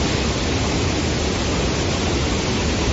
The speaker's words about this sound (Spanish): Y así suena el río Esgueva a la altura de su desembocadura en el Pisuerga.